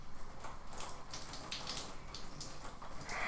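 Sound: shower water running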